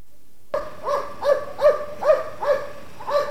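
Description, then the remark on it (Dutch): Police dogs handled by riot police bark in a rapid, steady series of about eight sharp barks, moderately loud against a hiss of background noise, with no one talking. “Er zijn een hoop ME'ers met honden.”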